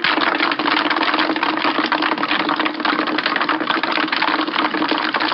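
A steady, loud mechanical rattle and hum from a Timex agitator machine vibrating at 1,300 vibrations per minute, with dense clattering as Timex 100 watches embedded in ice are shaken around inside, continuous and even throughout, no voices.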